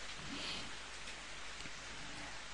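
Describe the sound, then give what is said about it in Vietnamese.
Steady rain with wind at Kim Kê pagoda, a dense, even hiss of falling water that holds at a soft, constant level throughout, with no voices or other distinct sounds standing out. “Khi thầy đến đây mà mưa gió thế này, các Phật tử vẫn đến.”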